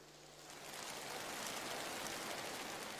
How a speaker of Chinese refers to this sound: 请我们大家以掌声欢迎